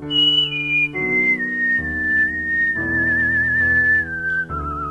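A person whistles Bach's Air on G, a slow, sustained melody with smooth gliding pitch and gentle vibrato over a soft instrumental accompaniment, the whistle clear throughout, while competing at the International Whistlers Convention in Lewisburg, North Carolina.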